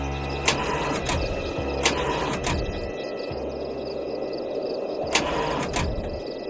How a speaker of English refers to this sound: Yeah, man, I would be doing all right, but my car will not start.